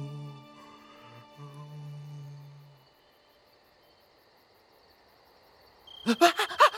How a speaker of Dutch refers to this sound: Het is maar een krekel.